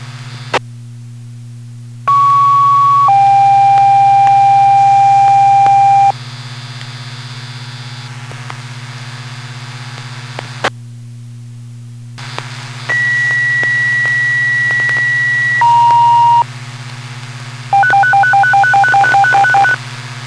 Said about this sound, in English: Royal Claremont Fire Department personnel striking a general alarm for a structure fire. It's going to be a garage fire at 14, that's 14 Bonnie Lane.